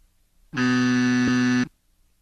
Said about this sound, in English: I just got the buzzer. No, it's not Greeny.